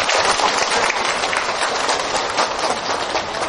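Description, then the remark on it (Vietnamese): A large crowd of Buddhist followers claps steadily and loudly for several seconds at a dharma hall, welcoming a visiting senior monk, a dense, continuous wash of many hands applauding with no voices rising above it. “Giờ đây mời quý Phật tử một tràng pháo tay thật lớn, thật nồng nhiệt.”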